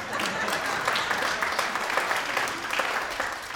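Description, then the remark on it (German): An audience in Friesenheim applauds steadily, a dense crackle of many hands clapping at once, sustained at an even, fairly loud level for a few seconds without any talking. “Ja, wir können ruhig mal klatschen.”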